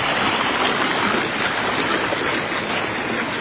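creek water running hard

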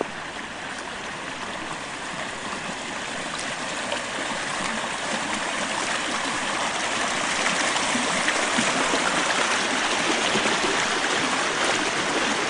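creek babbling

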